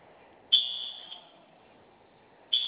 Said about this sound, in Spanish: Del lado izquierdo del botón de la flamita, la vamos a mantener presionada por 5 segundos y se va a activar la alarma. Una vez que se active, va a digitar su clave de alarmado.